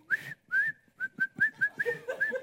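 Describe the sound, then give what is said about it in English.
A voice imitates a child's whistling: a quick, uneven run of about ten short, bright whistled notes with breathy onsets, fairly loud, with no talking. “I'm just wired in some ways to whistle or to hum throughout the day?”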